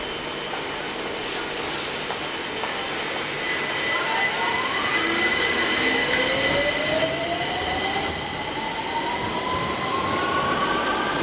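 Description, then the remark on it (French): A metro train rumbles steadily along the track, its motor whine rising in pitch as it accelerates, with high metallic squeals and hum filling the car throughout. “Mais si on se déplace un peu et qu'on prend le métro,”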